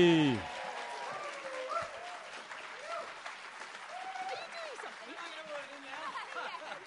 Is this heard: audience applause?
yes